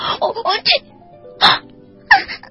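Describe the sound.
A voice acts out a sneeze by a red kangaroo in a children's story, tickled by a fox's tail: a run of quick, breathy build-up syllables, then a sharp, hissing burst, followed by another short voiced outburst after a brief pause.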